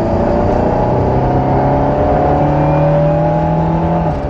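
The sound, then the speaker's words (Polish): An Alpine sports car at the Renault Nazaruk Service dealership, started with its orange button, runs loudly and steadily, a deep throaty drone with layered tones that climb slightly in pitch as it revs. No one speaks. “Ten odgłos, coś, czego nie uda się nikomu naśladować, chociażby dobierał różne tłumiki, akropowicze, nieakropowicze.”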